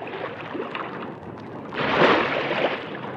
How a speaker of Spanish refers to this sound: El agua empezó a fluir rápidamente por un surtidor. Llenaba el estanque.